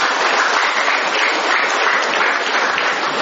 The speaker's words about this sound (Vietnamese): Chúng ta mời bạn ấy, mời chị em ấy một tràng pháo tay thưa anh chị em.